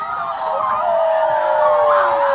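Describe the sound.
A man and several children at a camp cabin howl together in one long, sustained, wavering wail, loud, the voices blending into a single unbroken cry.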